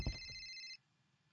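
A mobile phone rings in a classroom with a bright, steady electronic tone that cuts off abruptly after under a second, leaving only faint background noise.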